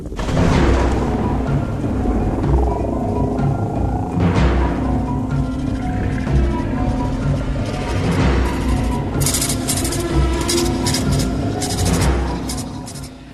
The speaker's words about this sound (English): Welcome to the storm.